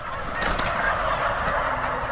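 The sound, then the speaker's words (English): Many turkeys gobble at once in a dense, overlapping chorus, a steady loud wash of warbling calls with no pauses or speech, at John's Turkey Farm in Northfield, Minnesota, which raises about 200,000 turkeys a year. “You're listening to Sound of John's Turkey Farm in Northfield, Minnesota.”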